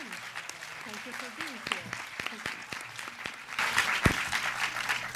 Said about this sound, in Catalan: li donem un fort aplaudiment i li agraïm que existeixi.